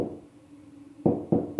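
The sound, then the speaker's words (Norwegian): Two firm knocks on a bathroom door, fairly loud, spaced about a quarter second apart after a stretch of quiet room hum, with a third knock starting at the very end. “Jeg satte meg ned på do, og etter kort tid banket det på døren.”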